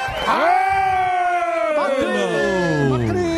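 An audience bursts into loud, sustained applause mixed with cheering and long whooping shouts that slide downward in pitch, filling the whole moment without a pause.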